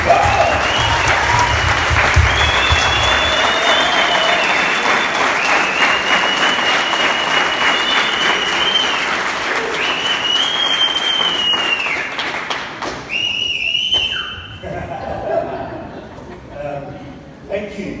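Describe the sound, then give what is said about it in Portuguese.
Sustained audience applause thanking the people, women among them, who helped prepare, dense and loud for about twelve seconds, with whoops and cheers riding on top, then tapering off into scattered claps and voices. “Eu queria que a gente nos agradecesse e bate palmas.”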